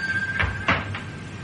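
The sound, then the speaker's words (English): A door being shut: a soft knock, then a firmer thud with a click of the latch, and a lighter tap after it, all brief over a quiet steady hum. “You shut that door and leave them be.”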